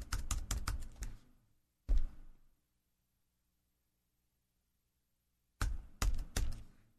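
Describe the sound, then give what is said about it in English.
Crisp computer keyboard typing in quick bursts of clicks, a pause with one short tap, then near silence before another rapid flurry of keystrokes, while trying to enter a Bible reference in the Accordance software. No voices. “Well, I can type up there, but Accordance will not allow me to do anything to enter a reference.”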